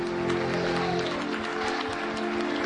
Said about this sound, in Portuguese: Dá um aplauso bem forte ao Rei da Glória e glorifica seu nome.